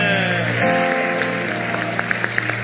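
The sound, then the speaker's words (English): A church audience claps together in praise after a prayer, a dense, steady patter of many hands, with a few sharper, louder claps standing out toward the end. No one speaks. “Clap your hands.”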